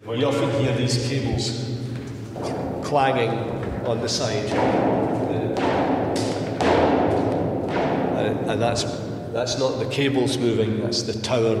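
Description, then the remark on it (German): Cables bang and thud irregularly against the inside walls of a tall, hollow wind turbine tower that moves in strong wind, a run of loud knocks repeating every second or so, with muffled talk underneath. “sondern auch der Turm selbst ist in Bewegung, sodass die Kabel von innen an die Wände knallen.”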